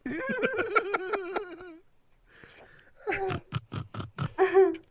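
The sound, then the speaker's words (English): A woman's voice imitates a pig, making loud snorting grunts in rapid pulsing bursts: one long run, a short pause with a faint breathy sound, then another choppy series of snorts. “Only on this show can you get a woman to snort worse than a pig.”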